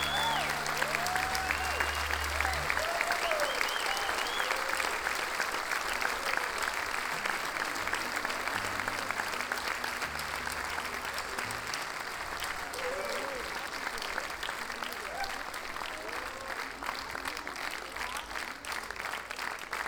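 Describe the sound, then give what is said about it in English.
A large audience claps together in a steady, synchronized rhythm, loud and sustained throughout, with scattered cheers and whoops rising above the unified clapping. “I love y'all's clapping over here, by the way. This is just, yeah, the in sync thing, it doesn't happen in the States.”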